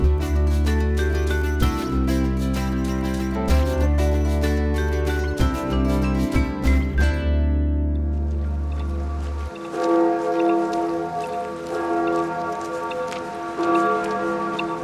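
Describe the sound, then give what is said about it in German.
The bells of Rathaus Schöneberg town hall peal loudly and continuously, their overlapping strikes ringing out in a dense wash, then fading to a lighter ringing with lingering tones toward the end. “Das Rathaus empfängt uns mit Glockenläuten.”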